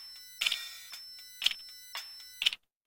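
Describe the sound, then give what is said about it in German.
An electronic gong in a shop, set off with a push button, chimes out a short farewell fanfare of bright, ringing tones, with several strong tonal strikes spaced about half a second apart, each decaying with a shimmering electronic ring. “senkt die Lautstärke des Kundenradios und löst mit Betätigung eines Druckknopfes die Verabschiedungsfanfare des elektronischen Gongs aus.”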